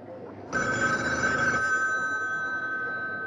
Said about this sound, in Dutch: Ah, daar gaat de telefoon al